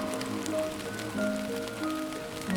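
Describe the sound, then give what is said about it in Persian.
Steady rain patters continuously with scattered droplet taps, moderately loud, heard from behind a window, while soft sustained musical tones play underneath. “پشت این پنجره من میشنوم ریزش باران تنهایی را میخواند، ریزش باران تنهایی را میگوید.”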